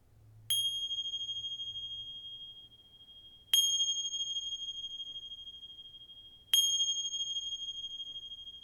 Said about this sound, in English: Until you hear the ring of the bells.